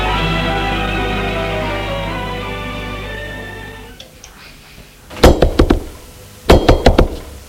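A sustained, droning musical tone fades away, then comes a loud knocking on a door: two quick bursts of about four raps each, separated by a short pause.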